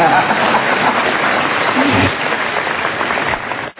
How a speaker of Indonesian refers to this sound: Boleh tepuk tangan, boleh.